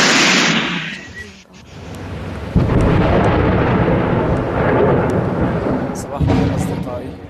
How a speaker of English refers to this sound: Tens of shells are raining down on the besieged areas in Aleppo. There are injured in the field hospitals, injured as a result of the bombardment by the regime forces and allied Iranian militias.